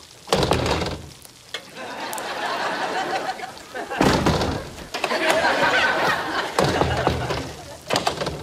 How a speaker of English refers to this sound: She unlocks the first lock, the second, the third, and then goes to pull the door open.